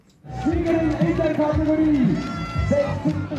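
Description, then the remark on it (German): Crowd noise at the finish area of an Ironman triathlon in Rapperswil on 3 June, as cyclists arrive to change into running shoes, runners pass through toward the last lap and others cross the finish: a dense, continuous babble of many voices with a sustained tone running through it, steady and fairly loud throughout. “Läufer rennen kurz durchs Zielgelände und gehen auf die letzte Runde. Andere sind fertig und rennen erleichtert durchs Ziel.”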